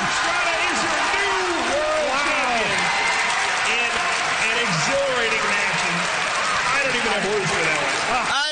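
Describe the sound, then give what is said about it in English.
A crowd of over 3,000 people at a Pokémon world championship match at the Washington Convention Center in D.C. cheers and applauds without pause as the game ends, a loud, dense wash of clapping threaded with many overlapping shouts and whoops rising and falling throughout. “Did you hear the crowd? It sounded like 10,000 people.”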